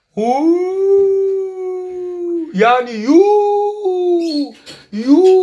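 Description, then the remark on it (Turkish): A voice imitates howling dogs or jackals, drawing out long sustained howls that rise and waver, with a few yipping breaks between them, loud. “Köpekler ve çakallar köyde burada ürer.”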